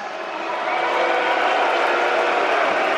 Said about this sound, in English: I'm not sure why you're booing that. It's your city.